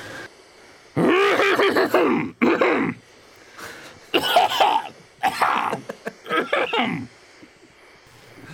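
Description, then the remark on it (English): A run of harsh, throaty coughs comes in several loud bursts, some drawn out and rasping like grunts, with brief pauses between them and no talking. “This is cough number one.”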